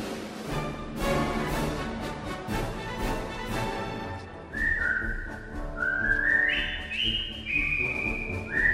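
A group of British soldiers whistles a jaunty marching tune as they march into a prisoner of war camp, the bright melody entering about halfway through over a steady rhythmic backing, fairly loud, with no talking.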